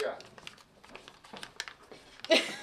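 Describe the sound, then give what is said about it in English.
Crinkling and rustling of paper as a small plastic capsule from a token machine at Resolute Tattoo in Del Mar, New York, near Albany, is handled and opened, holding a printed tattoo design; ends in a louder plastic crackle. “Printed on a piece of paper inside a plastic capsule is a drawing of a baby in a wash bin with a snake, a classic traditional design.”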